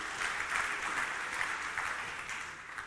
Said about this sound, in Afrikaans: dit verdien seker daar 'n hande klap.